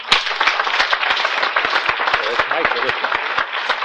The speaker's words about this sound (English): So without any further with me, would you please welcome with a big applause